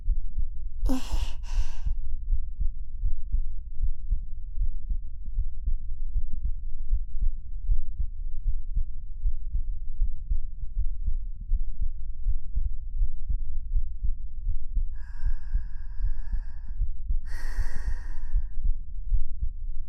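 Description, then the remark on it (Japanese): A muffled heartbeat thumps steadily throughout, low and continuous, with a soft breathy sigh near the start and a couple of quiet exhales toward the end. “私、ドキドキしてるかな。”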